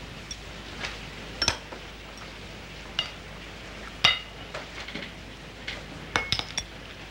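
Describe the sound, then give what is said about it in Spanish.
Dishes and cutlery clink and clatter in scattered, irregular bursts as food is served at a dinner table, with a few sharper chinks standing out and no one speaking. “Chu también sirve platos.”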